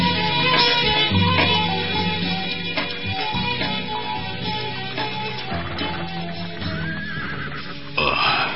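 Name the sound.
horse neighing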